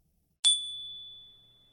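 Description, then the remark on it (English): A single bright crystal bell chime rings out alone, striking sharply and then sustaining a pure, high, shimmering tone that slowly fades over more than a second. “He heard a sound like a perfect crystal bell.”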